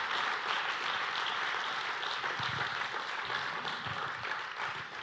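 Sustained applause from a crowd fills the space, a dense, steady wash of many hands clapping at once with no pauses, moderately loud and continuing throughout.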